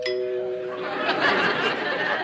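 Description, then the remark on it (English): A doorbell rings with a clear, steady electronic chime tone, quickly giving way to a busy, noisy burst of overlapping voices and chatter. “George, do you hear the doorbell, or do we live next door to a church?”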